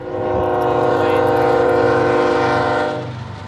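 A train's horn blares in one long, loud, sustained blast of about three seconds over the low rumble of the train rolling along the tracks in Bay Point by the Delta, Contra Costa County.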